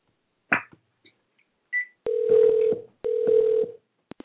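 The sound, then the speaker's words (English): Telephone line sounds as a caller who keeps getting cut off tries a separate line: a few short clicks and beeps of dialing, then two steady, fairly loud buzzy tone bursts with a brief gap between them, with no talking. “Okay, we're going to try a separate line.”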